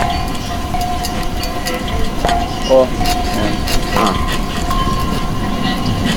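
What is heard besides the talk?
train arriving at station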